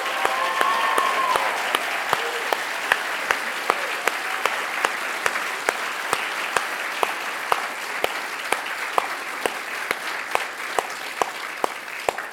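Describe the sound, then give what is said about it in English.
A crowd applauds steadily for about twelve seconds to thank standing military veterans at both campuses, dense overlapping claps with a few sharp louder ones standing out, plus faint cheering and whoops early on. “And can we cheer for you and say thank you?”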